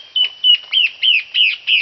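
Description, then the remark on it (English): A male antbird sings its territorial song: a rapid series of about six bright, whistled notes that rise and fall in a steady rhythm, clear with no talking. “Here's the territorial song that a male from the first species makes.”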